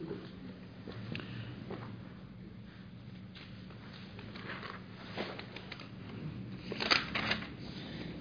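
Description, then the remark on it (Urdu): Rustling and shuffling of paper with small scratchy taps as pages and a pencil are handled; the sounds come in irregular bursts, quiet and with no one speaking. “مجھے پینسل دیں اور کاغذ دیں.”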